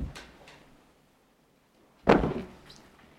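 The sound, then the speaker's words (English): Wooden table leaves are pulled open: a couple of soft scraping knocks, a brief pause, then one loud thunk that rings out briefly. No one speaks. “Maybe what you could do, just pull the chair, yeah. Pull open the leaves.”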